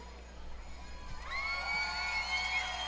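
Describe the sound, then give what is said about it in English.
A large baseball stadium crowd of fans roars with cheers and shouts, starting as a steady murmur and swelling suddenly about halfway through into loud, sustained yelling and high whoops that carry to the end. “I just want to see how many times you guys are going to keep making noise.”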